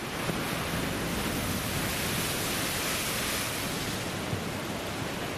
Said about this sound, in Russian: Еще разочек. Волна хорошая идет. Давай, хорошая волна. Давай.